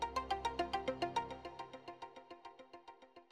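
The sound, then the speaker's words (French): A phone ringtone plays a quick, steady run of bright electronic notes, clear at first, then gradually fading quieter over a few seconds, with no voices. “Et toi, tu réponds comme ça au téléphone ?”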